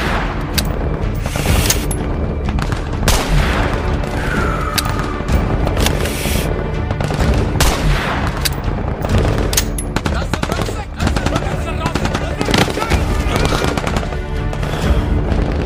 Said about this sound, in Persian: میخواد بهش شلیک کنه که یه دفعه از اطراف به خودش تیراندازی میشه. یه تک تیرانداز با اسلحه یه دوربین دار داره میزندشون.